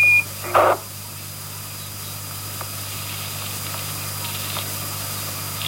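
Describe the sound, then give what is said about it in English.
Steady radio static hisses throughout, over a low electrical hum, with a short beep and a brief louder crackle of noise near the start, as Houston tries to get through to Apollo 11 by relay through an Orion aircraft; no one speaks. “A lot of static as they're trying to get through.”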